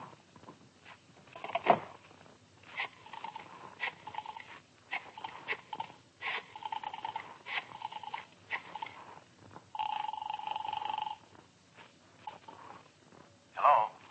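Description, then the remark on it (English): A telephone being used to place a call: a run of short, clipped electronic tones in an uneven rhythm, then a longer steady tone, fairly clear with no voices. “Can I use your phone? Yeah, help yourself.”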